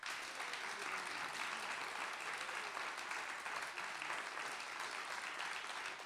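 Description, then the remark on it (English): An audience at a recorded live show practises applauding, a dense, even wash of many hands clapping at constant loudness for the whole stretch, with no voices rising above it. “So if I'm going to get you all to applaud now.”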